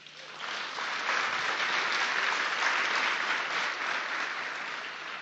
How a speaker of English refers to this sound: Give God a hand clap.